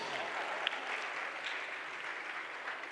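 Steady audience applause fills the whole stretch, a dense wash of many hands clapping at an even level with a few sharper claps poking out, and no voices.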